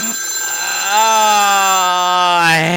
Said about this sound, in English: You start talking about the Vons, yo, yo, yo, and y'all, the death phone begins to ring. Well, let's just see who it is.